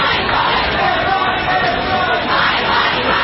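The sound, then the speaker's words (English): A large protest crowd in the United States, reacting to the U.S. Supreme Court overturning Roe v. Wade, roars and shouts together in a dense, continuous wall of voices, loud and steady throughout, with no single speaker standing out. “Crowds gathered in Washington and elsewhere around the country.”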